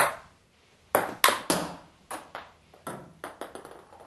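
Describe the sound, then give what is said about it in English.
A table tennis rally at a party on a family estate, a man slamming a woman's serve: the ball is struck back and forth in a quick run of sharp, bright clicks and pocks, some louder than others, with no voices. “He slams her serve.”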